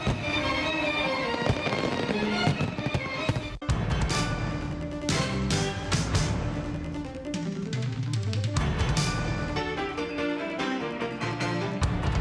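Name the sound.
fireworks bursting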